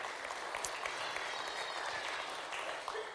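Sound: audience applause and cheering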